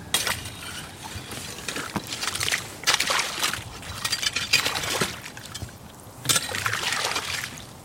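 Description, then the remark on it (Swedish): Slushy, icy water churns and sloshes in bursts in a hole cut in the ice, with many small ice pieces on the surface and water around 1 or 2 degrees; wet crunching and splashing swell and fade several times, fairly loud, with no talking. “Jag får skjuta undan det här sen. Om det går. Det är som en slask här, eller slushy. Massor av små isbitar här på ytan i vaken.”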